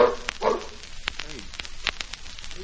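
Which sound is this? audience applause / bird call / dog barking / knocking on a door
dog barking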